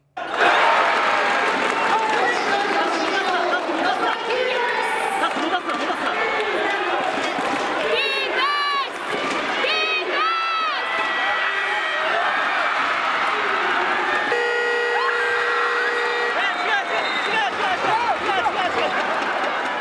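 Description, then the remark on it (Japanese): A loud basketball arena crowd roars with sustained cheering and applause through the last nine seconds of a Shinshu versus Volters game, from made free throws to a final three-point attempt, punctuated by sneaker squeaks and a long game-ending buzzer near the end, with noisy voices throughout. “で残り9秒、3点リードで信州ボールとなるんですが、うん、その残り9秒都市の選手がフリースローを決めるところから試合の会場の音を聞きください。”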